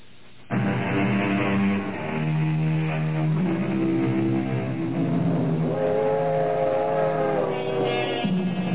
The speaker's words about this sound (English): Some people think that the sound of a train whistle fading into the distance is probably the most melancholy sound in the world.